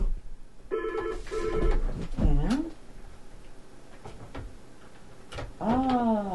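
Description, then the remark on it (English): A telephone rings in two short electronic bursts, fairly clear, followed by a few brief vocal sounds and background murmur. “Usually when I say I'm winding it up, that's when the phone rings.”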